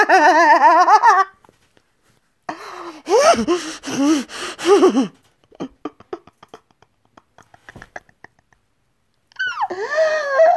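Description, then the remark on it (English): Strained gasping for breath of a person being choked: ragged, voiced gulps in several loud bursts, separated by a stretch of faint breathy clicks, with one more choked gasp at the end. No clear speech. “I just want you to gasp for breath, too.”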